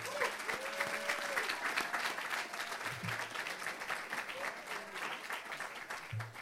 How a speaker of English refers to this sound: If you all indulge me just a minute, can we give a round of applause to everybody that had a hand in preparing and serving this meal for us?